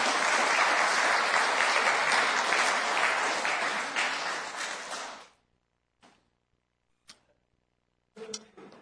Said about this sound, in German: Einen kleinen Applaus.